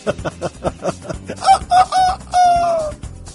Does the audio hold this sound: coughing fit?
no